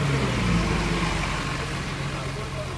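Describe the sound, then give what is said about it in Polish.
Steady street traffic at a bus stop near the main railway station in Gdynia, Poland, a continuous wash of engine noise with low idling hum and passing cars, holding an even loudness throughout. “spotykam się na przystanku autobusowym koło dworca głównego w Gdyni.”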